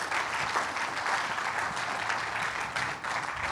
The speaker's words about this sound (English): Well, if you would, yeah, give her a hand. Go ahead. If you would, one more time. I know we're doing a lot of clapping this morning,